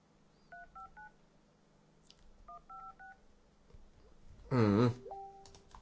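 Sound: telephone number being dialed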